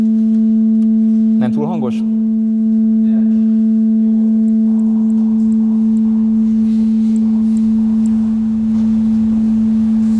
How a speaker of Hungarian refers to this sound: Itt egy 220 Hz-es A hangot hallanak, ez a fűrészfogjel alapharmonikusa, amit itt látnak.